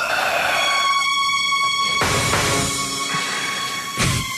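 Suspense music plays alone before the first question of a Radioactiva radio quiz: steady, eerie sustained tones hang for a moment, then a loud, dense swell of sound rolls in, punctuated by a sharp hit near the end.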